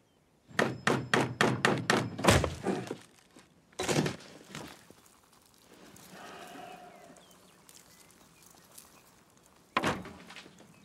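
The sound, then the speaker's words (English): Heavy thuds pound against a door in attempts to break through it: a quick burst of about eight blows in a row, then a single hit, a stretch of quiet rustling, and one last loud thump. “Well, so the first was a test, and the second, I think, was an actual attempt to break through the door.”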